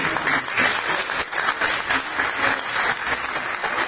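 An audience applauds steadily, a dense wash of many hands clapping at once that holds at an even, fairly loud level for several seconds without anyone speaking.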